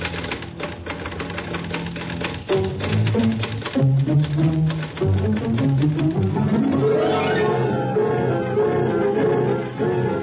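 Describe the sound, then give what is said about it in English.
Rapid typewriter keys clack steadily throughout, fairly loud, as a man types at his desk, layered over sustained musical tones that swell and glide upward toward the end. No one speaks. “Pretty soon, he began typing.”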